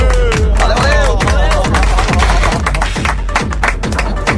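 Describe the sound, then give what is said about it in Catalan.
An audience applauds with steady, moderately loud clapping, a dense patter of claps mixed with crowd murmur and a few voices calling out over it. “Poc entusiasme aplaudint, realment es nota que no sou de rei.”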